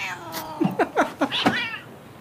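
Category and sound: animal, cat meowing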